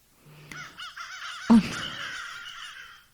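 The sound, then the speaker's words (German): A crow caws a few times in harsh, raspy bursts, then lets out one loud call that stretches into a long, drawn-out caw. No voices are heard. “Ich habe noch eine Krähe.”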